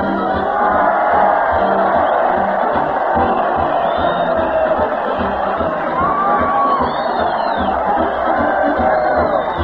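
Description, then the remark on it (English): A large crowd cheers and roars steadily, a dense wash of many voices with occasional higher whoops and shouts rising above it, loud and continuous throughout. The crowd cheers comedian Fred Allen as he leads a parade and band down Main Street to the Old Town Hall. “Crowd cheer Fred Allen as he leads the parade down Main Street to the Old Town Hall.”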